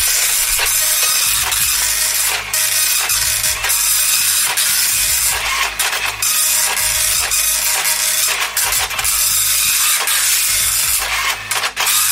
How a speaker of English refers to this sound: Very slow printer, Will. Sorry about that. It's the old dot matrix thing.